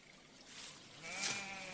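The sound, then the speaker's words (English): A single sheep bleats once, a wavering, nasal call rising out of soft outdoor background noise, fairly quiet, with no one speaking. “Sheep have always been the cornerstone of Icelandic farming.”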